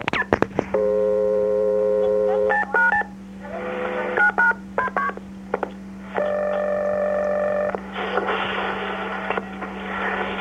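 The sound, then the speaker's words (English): An Emporia police dispatcher dials a phone number at 3:18 a.m., a series of stacked touch-tone beeps, some short and quick, others held longer, over a steady low electrical hum and faint line noise. “The fourth call occurred at 3:18 a.m., 717-83, and was made by an Emporia police dispatcher”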